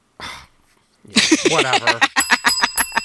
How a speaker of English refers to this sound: Oh, I get the bell rung for that one.